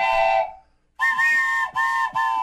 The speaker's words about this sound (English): I had to borrow. I meant to bring in my whistle, and it's sitting there on the table in my kitchen at home. You were ready to go. Pisses me off. So I had to borrow your whistle. I borrowed.